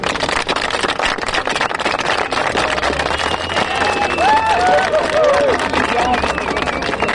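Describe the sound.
A large crowd of demonstrators claps together to vote for the option of walking in groups of 10–15 people, a dense, steady wash of applause mixed with scattered shouts and voices, swelling slightly louder midway before holding on.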